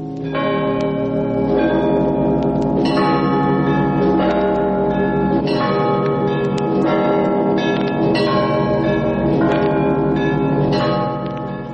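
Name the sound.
church bell ringing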